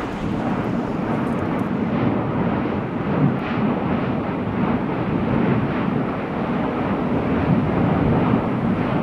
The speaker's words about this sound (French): le Piton La Fournaise à La Réunion, ici capté par Fernand Desroussen en 1998.